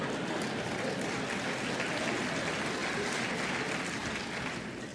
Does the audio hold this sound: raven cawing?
no